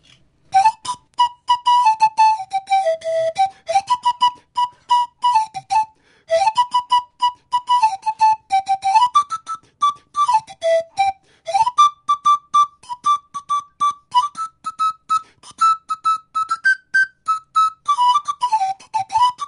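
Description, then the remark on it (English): A lively tune played on quills (panpipes) at a performance in Charlottesville, breathy bright notes rising and falling in quick, chirpy phrases with short gaps, sustained for the whole stretch with no talking. “With you mentioning the quills, I could play a small piece on the quills.”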